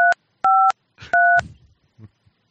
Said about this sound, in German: Oh, ich habe die Tastentöne noch an, das tut mir leid. Solange du nicht die ganze Telefonnummer laut vorsagst, ist alles gut.